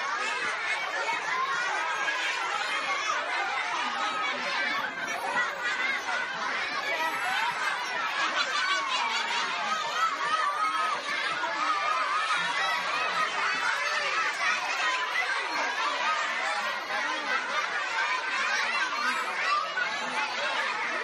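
A steady wash of crowd chatter from excited children at a shoebox gift distribution, many overlapping voices talking at once with scattered laughter, squeals and snickers, holding an even, fairly loud level throughout with no single voice standing out.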